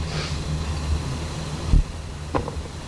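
A steady low rumble of cars driving past outside in the middle of the afternoon as they go home, with a couple of brief thumps partway through and no one talking.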